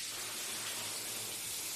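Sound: shower water running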